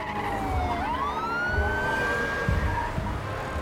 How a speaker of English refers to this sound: Cop cars race through an intersection.